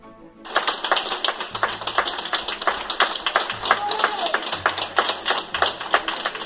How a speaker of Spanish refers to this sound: Así aplauden los sanitarios de la Clínica Universidad de Navarra, la Clínica Universitaria de Navarra en Madrid. El momento en el que uno de sus pacientes por COVID-19 abandona la UCI, el primero que lo hacía,